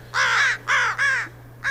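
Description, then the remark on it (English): An American crow caws loudly and harshly in a quick series of four calls, the last one cut short, with a steady low hum underneath. “It's the American crow, and it's one of our listening area's loudest and most raucous species of birds, and we're going to listen to some crows here.”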